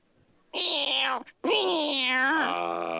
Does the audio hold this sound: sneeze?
no